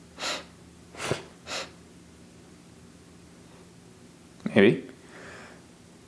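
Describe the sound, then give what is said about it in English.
Three quick breathy sniffs build up before one loud sneeze bursts out near the end, with a short spoken word. “Hang on, I gotta sneeze.”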